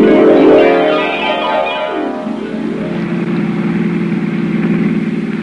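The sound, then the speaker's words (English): A car engine drones steadily, its pitch sweeping up and down as the judge's car drives around the countryside and shifts gears, with no voices over the motor. “Using the judge's car and gas, she carted me all over the countryside looking for my opportunity”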